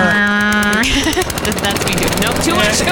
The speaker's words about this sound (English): I don't know if I have a sound of that. Will a lawnmower work? No, that's a motorcycle. Here we go.